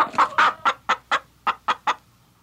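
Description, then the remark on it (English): A chicken clucks about eight times in a quick, steady series of short, throaty bursts, clear, with no voices, then falls quiet near the end. “And what could be more cultural than chicken?”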